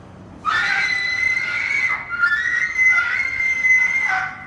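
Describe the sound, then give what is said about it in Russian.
A shrill, desperate scream rings out loud, held for about four seconds with two brief wavering breaks, piercing and high-pitched over a quiet background. “Раздался истошный крик, и Растяпкин забыл о своем вопросе.”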